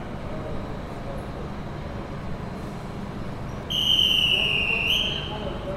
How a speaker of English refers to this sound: So, here we are on the train, and we've been travelling for nearly 3 hours and are now arriving at our destination.